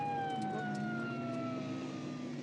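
police car siren

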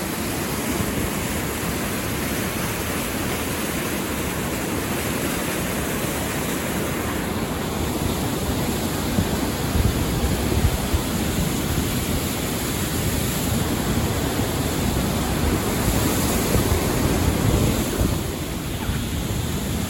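rushing waterfall

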